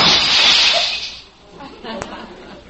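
glass breaking

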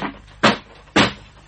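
door being opened

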